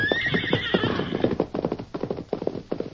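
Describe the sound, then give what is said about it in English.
A horse gives a loud, high whinny over the first second, then rapid clip-clop hoofbeats carry on in an uneven galloping rhythm, growing choppier as the sheriff's son rides the horse away over the horizon. “Lance and Kansas stood in the doorway and watched the sheriff's son ride away until he had disappeared over the horizon.”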